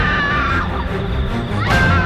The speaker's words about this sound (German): von Weitem den Schrei einer Frau